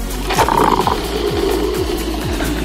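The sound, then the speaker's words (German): A coffee machine works hard with a loud, steady mechanical drone, a brief whining tone early on, and a repeating pulse-like churn throughout. No one speaks. “Kaffeemaschine läuft auf Hochtouren.”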